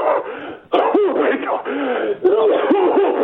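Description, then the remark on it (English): A voice imitates whooping cough by saying the word 'whoop' while coughing aggressively, harsh coughs broken by several rising 'whoop' sounds in a rapid, continuous run. It is fairly loud, slightly tinny like a phone or radio line. “Now, to do a good whooping cough, you've got to say the word whoop whilst coughing in an aggressive manner.”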